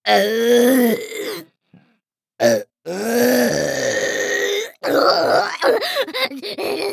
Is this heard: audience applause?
no